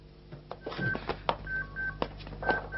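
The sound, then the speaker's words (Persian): A telephone rings in an office with short, repeated electronic tones, clear but not loud, over a busy room full of clatter and movement; no one speaks. “کسی تلفن رو جواب نده.”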